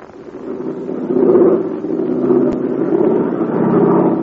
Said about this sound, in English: You hear that? That's Bud Hennig's American-made plane. And it's flying over the invaders' lines and trying to dodge a barrage of anti-aircraft fire.